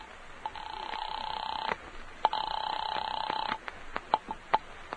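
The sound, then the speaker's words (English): A telephone rings twice on the line, each long burst a steady buzzing tone, heard as if through a receiver, followed by a few faint clicks; a call placed from a phone booth in a drugstore to a doctor's house. “slip unnoticed into a phone booth, put through a call to Dr. Fisher's house”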